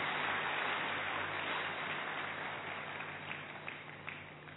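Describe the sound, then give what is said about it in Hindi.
Audience applause welcoming the revered Raju Bhai ji: a steady, dense wash of many hands clapping together, holding strong for several seconds before gradually thinning and softening toward the end. “हम सभी तालियों के द्वारा उनका स्वागत करते हैं।”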